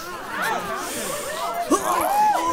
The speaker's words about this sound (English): Everybody sniff!